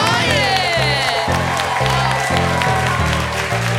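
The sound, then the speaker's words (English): An audience bursts into loud, sustained applause for the cast and crew, dense clapping mixed with cheers and a few high whoops, continuing steadily for the full few seconds without pause. “Please give a round of applause to the cast and crew.”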